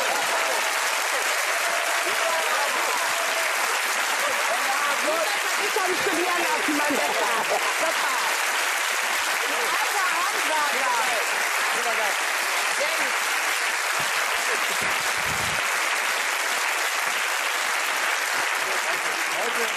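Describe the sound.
Sustained applause from an audience for a correct answer fills the whole stretch, a dense, steady wash of clapping at even loudness, with some faint voices mixed in underneath.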